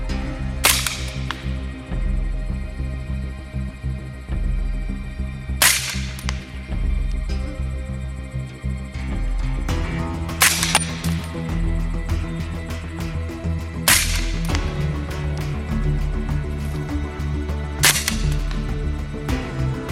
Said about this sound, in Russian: Прибор ночного видения, установленный на снайперской винтовке на дистанции в 200 метров, позволил нашей съемочной группе сделать ряд точных выстрелов.